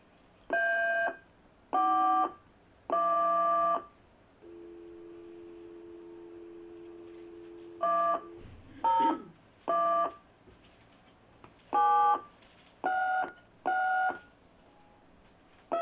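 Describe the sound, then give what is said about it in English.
Fax machine transmission tones as written testimony is telecopied: a series of short, harmonic electronic beeps, then a long steady low hum, then more irregular beeps and chirps, with no voices. “a lady did drop off some written testimony that she would like transmitted down, so I would like to telecopy that”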